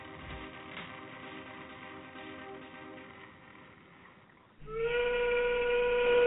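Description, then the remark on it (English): A low rumbling mechanical drone gives way to a loud, sustained factory steam whistle blast that starts abruptly and holds steady, rich with overtones, strong to the end. “All too often these days, the factory whistle is falling silent in America.”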